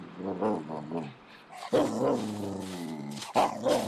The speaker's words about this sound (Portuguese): Aí quando eu acordei, o cachorro tava latindo, eu acordei com o latido dele.